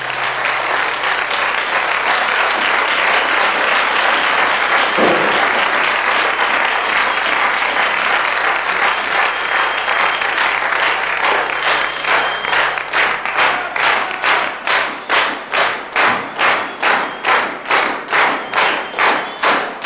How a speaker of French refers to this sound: Voilà, je laisse les applaudissements, ça me fait mousser un peu. C'était enregistré en public au théâtre d'Agen.